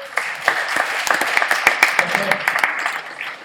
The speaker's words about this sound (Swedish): En applåd för henne.